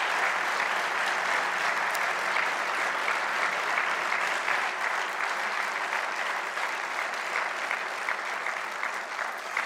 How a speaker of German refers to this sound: Ganz herzlichen Dank für Ihre Inspiration. Das ist auf jeden Fall mal ein Applaus wert.